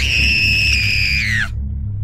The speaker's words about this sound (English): As she came in front of the window, she screamed at the top of her lungs.